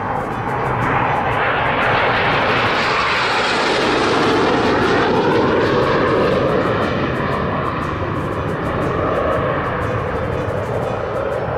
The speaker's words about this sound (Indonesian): Rio melihat miniatur-miniatur tentara dan pesawat tempur. Terdengarlah suara-suara diorama peperangan.